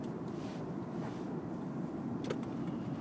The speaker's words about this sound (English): Oh God, why are there so many cars right here?